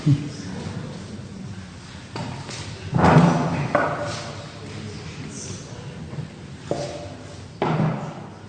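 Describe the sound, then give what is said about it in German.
Irregular bumps and thuds of a chair being shifted, with a louder clatter midway as it is set down and a few softer knocks and scrapes afterward. “Ich suche gerade mal einen Stuhl.”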